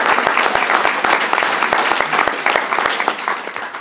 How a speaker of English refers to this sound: Nice round of applause.